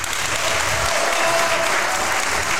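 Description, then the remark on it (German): Steady audience applause fills the whole stretch, a dense wash of many hands clapping at once, loud and close without any pauses or voices. “und ich möchte zunächst mal meinen Gast begrüßen und ich hoffe, das Publikum wird dementsprechend applaudieren.”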